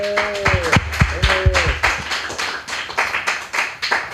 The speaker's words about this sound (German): Bitte einmal Applaus für die Engel.